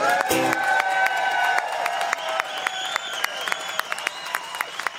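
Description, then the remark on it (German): An audience applauds at the close of a musical performance with dense, steady clapping, mixed with cheering and whistle-like tones at first. The applause then thins into scattered, sharper claps that continue to the end. “Und du merkst, der Applaus ist deiner.”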